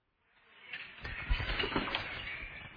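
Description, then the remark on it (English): An owl, Pigwidgeon, flutters in delivering the post, its wings rustling as it swoops over toward the Ravenclaw table. The flapping swells from near silence into a steady, moderately loud whoosh, with no one speaking. “Stupid Owl, what's he going over to the Ravenclaw table for?”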